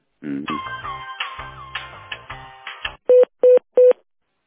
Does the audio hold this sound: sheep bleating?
no